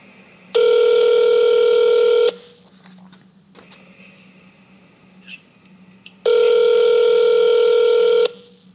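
An outgoing phone call ringing on the line: two long, buzzy ringback tones about four seconds apart, with only faint hiss and a low hum in between and no one answering.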